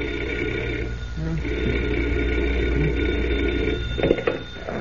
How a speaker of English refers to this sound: at 5 o'clock the following morning, Clark Kent was roused from bed by the sound of a telephone ringing.